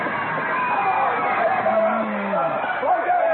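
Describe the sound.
A dense, excited crowd clamors continuously, many voices blending into a loud, steady roar of shouts and chatter with occasional rising cries as spectators watch a fistfight between two men with cut, bleeding faces swinging wildly at each other.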